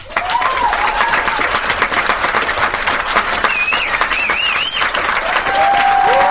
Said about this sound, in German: Yay, klatsch. Warte mal, Pause machen für digitales Klatschen einfügen. Jetzt.